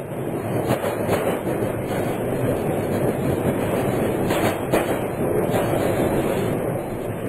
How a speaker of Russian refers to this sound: Поезд тронулся. Под страшную ругань прапорщика и пронзительный свист тепловоза Игорь запрыгнул в вагон.